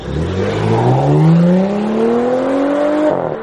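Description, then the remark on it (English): A car engine revs hard and accelerates, its pitch climbing steadily for about three seconds as the carjacked vehicle pulls away, loud with no voices. “Just get carjacked by the Easter Bunny?”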